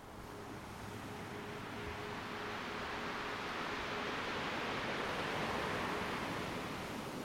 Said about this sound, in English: Watching the rolling and crashing waves off to one side.